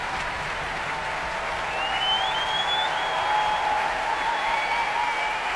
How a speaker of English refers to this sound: Applause for tonight's conductor, John Wilson, returning to the stage here at the Royal Albert Hall.